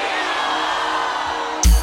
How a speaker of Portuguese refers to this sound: Teresina, levanta a mão e dá uma salva de palmas para todos os caminhoneiros do nosso Brasil.